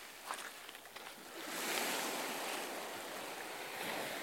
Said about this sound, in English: So you can see the sea. Yeah. And the waves.